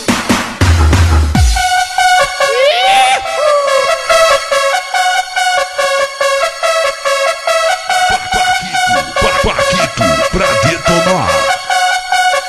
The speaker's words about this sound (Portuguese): Olha as cornetas aí. Fala aí, corneta. Fala aí, fala aí.